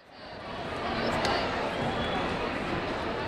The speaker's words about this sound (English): Hundreds of students at Sioux Falls Roosevelt High School stomp up bleachers in the gym. The band plays as they fill the stands and spill out onto the hardwood floor.